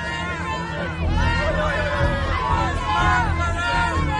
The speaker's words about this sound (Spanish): Bill Gates ha sido recientemente increpado al grito de arrestarlo y asesino en su visita. Ahí lo ven ustedes. A Inglaterra.